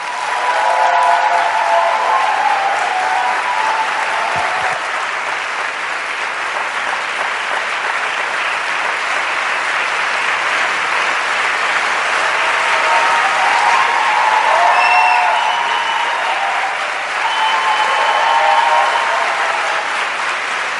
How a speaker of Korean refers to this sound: 박수로 맞이해 주시기 바랍니다.